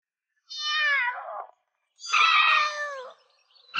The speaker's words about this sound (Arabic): مياو مياو. قطة مسكينة عالقة. لا تقلقي يا صغيرة، جاء البطل المنقذ وسينقذك حتى لو لم تحتاجي إلى الإنقاذ.